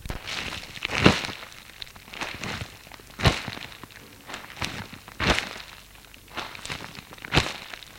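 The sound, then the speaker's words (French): Slow, even footsteps of shoes crunch through soft snow outdoors under a grey sky in mild weather, roughly one step per second, each a muffled, grainy crunch with a quieter scuff between, and no voices. “Le ciel est gris, il fait doux, la neige est molle sous ses chaussures.”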